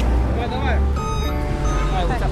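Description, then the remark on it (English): A moving truck engine rumbles steadily on a restaurant's moving day, with a brief steady electronic tone sounding midway, while voices talk indistinctly over the noise. “I'm recording for a podcast being made about the restaurant, so I'm just getting all of the sound of, like, the truck and everything.”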